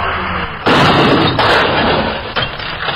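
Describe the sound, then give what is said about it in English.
In a crash test on an old, unused portion of the Will Rogers Turnpike, a car pulled on a cable by a pickup slams into a parked car with a loud, sudden crunch, then grinding metal and breaking glass carry on, with a few more heavy jolts. It is harsh and loud, with no voices. “A car is attached to a cable pulled by a pickup and then smashed into a parked auto.”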